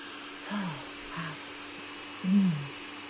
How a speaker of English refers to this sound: Just gonna pour some of this in. And then blend it all up.